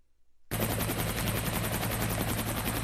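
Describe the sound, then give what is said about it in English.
After a brief silence, a helicopter's rotor blades start thumping loudly in a rapid, steady beat over a constant engine drone, with no one talking. The helicopter is airlifting emergency workers and relief supplies to flood-cut towns and villages in Guatemala. “Helicopters are airlifting emergency workers as well as relief supplies to towns and villages cut off by the floodwaters that were triggered by the powerful tropical storm that has pounded Central America.”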